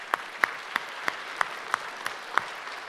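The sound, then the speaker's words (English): Applause in the form of slow, steady hand claps, about nine sharp, evenly spaced claps over three seconds, moderately loud with no voices. The applause is for the child winners of a naming craft competition. “Okay, we round of applause for the winners of the naming craft.”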